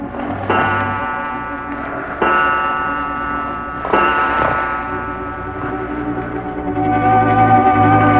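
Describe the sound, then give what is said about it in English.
A clock standing in a corner chimes the hour softly at 3 a.m., its bell-like tones ringing out in a few spaced strokes that overlap and linger, with a faint steady ticking underneath. No voices are heard. “All was quiet save for the ticking of the clock that stood in the corner.”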